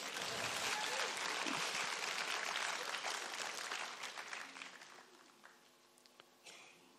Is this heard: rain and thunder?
no